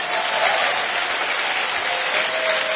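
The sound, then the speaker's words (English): A crowd at a sermon applauds for Jesus, dense overlapping claps forming a loud, even wash of sound that holds without pause for the whole stretch, with no voices rising above it. “But if you are clapping for Jesus, clap well.”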